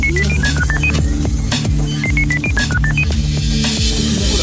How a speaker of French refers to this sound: J'ai un numéro de téléphone. Alors, on a la régie. La régie qui va, qui va pouvoir tenter de composer le numéro.